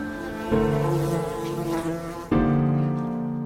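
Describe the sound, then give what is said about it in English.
Bees buzzing loudly in a steady, droning hum that surges twice as the swarm grows louder, with no voices. “The bees are waiting.”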